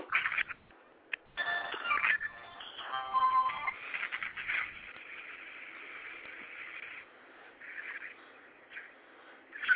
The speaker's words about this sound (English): And whoever's calling me on my cell phone, stop calling me right now while I'm doing the show.